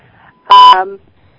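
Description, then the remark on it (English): A single short electronic beep on a phone line, loud, with a steady tone lasting about a quarter second before trailing off into a brief buzzy tail. “I hear a beep.”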